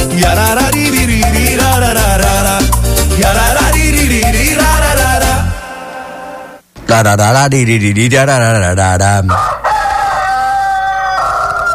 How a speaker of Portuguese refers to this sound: Eita, e quando o galo canta, a gente se levanta e vai trabalhar.